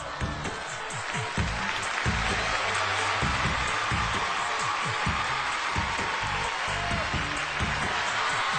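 An audience at the Miss America pageant cheers and applauds in a dense, steady roar that holds at a loud level for nearly nine seconds, with indistinct voices mixed into the noise, as contestant Miss Utah does at least 10 full military push-ups.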